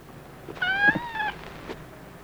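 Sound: cat meowing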